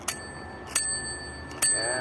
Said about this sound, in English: Episode 1000. Let's ring the bell for that.